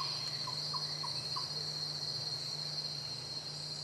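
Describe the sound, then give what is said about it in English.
Rainforest ambience filled with a steady, high-pitched insect drone and a low continuous hum, with a few brief chirps in the first second and a half. No one speaks. “Sitting and listening to the rainforest was calming, and holding perfectly still, we tried to identify as many different sounds as we could.”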